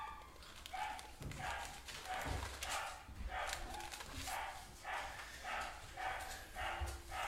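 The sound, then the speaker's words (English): A dog barks repeatedly in a steady, evenly spaced rhythm, about a dozen sharp barks at moderate volume over a faint background hum, with no one talking. “When dogs bark, it's amen.”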